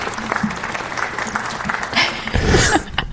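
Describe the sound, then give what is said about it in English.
A small crowd claps for a few seconds, a modest burst of applause that swells briefly near the end before thinning out. “That felt like more like a club inside a club applause.”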